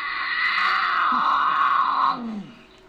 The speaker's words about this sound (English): He says the most misunderstood sound is the infamous mountain lion scream. a female in heat.